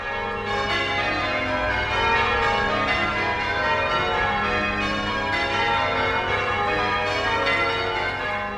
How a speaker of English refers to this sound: And the bombed-out shell of that cathedral still stands today, ringing its bells as if it were still whole.